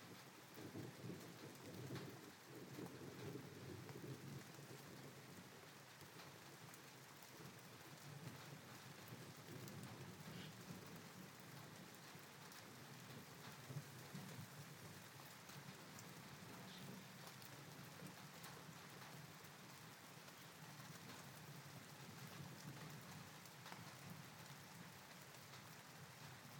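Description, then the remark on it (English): Steady, dense rain hisses throughout while thunder rolls low and deep, swelling most noticeably near the start before settling into a low rumble beneath the downpour. No voices. “I'm just letting the thunder have its say.”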